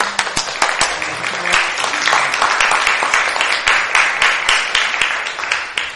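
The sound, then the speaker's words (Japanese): A church audience welcomes the preacher to the pulpit with steady, dense applause, many hands clapping at once in a continuous crackling wash that holds at an even loudness for several seconds with no one speaking. “歓迎の拍手を持って講談に迎えしたいと思います。”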